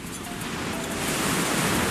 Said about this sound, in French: J'entends le bruit des vagues, les vacances commencent enfin.